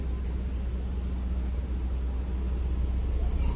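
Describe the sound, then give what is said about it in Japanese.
A steady low rumble of other cars' engines idling, echoing with a hollow, reverberant quality, continuous and even throughout with no talking. “やっぱ反響するからか、他の車のアイドリングの音が響いてます。”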